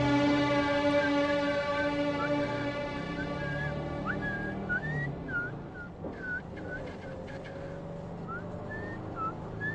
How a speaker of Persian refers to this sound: آره باس یاد بگیری. یه مرد با سوت زدن بلد باشه کلا به دردش میخوره.